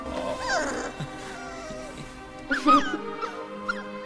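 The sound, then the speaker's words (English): A puppy whimpers and whines in high, wavering cries as a man hugs and pets it, with a sharper yelp-like burst near the end, over a steady low background hum. “He hugs and pets the dog.”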